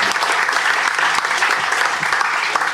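Steady, dense applause from a group, many hands clapping at once in a continuous, fairly loud wash of sound with faint voices mixed in.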